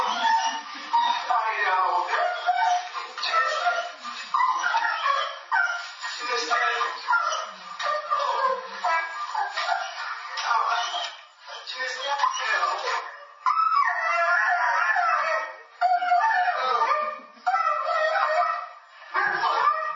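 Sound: dog whimpering and barking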